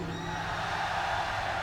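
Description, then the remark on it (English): A concert crowd in Leeds roars, cheering and shouting together in a dense, steady wall of voices with scattered higher whoops, holding loud and unbroken throughout. “Right then, let's see if you can make as much noise as you can queuing.”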